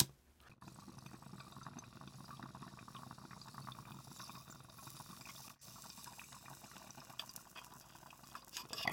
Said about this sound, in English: Let's take a bong hit